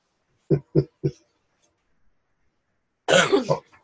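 A person coughs three times in quick succession, then after a pause gives a longer, harsher cough, clear against a quiet background.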